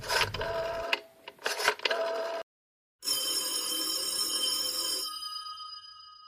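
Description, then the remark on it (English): A telephone is dialed to the time service with a few mechanical bursts and clicks, then after a short pause a steady electronic tone rings out on the line before cutting off. Clear, with no talking. “knowing how foolish it was, knowing it, went to the phone and dialed.”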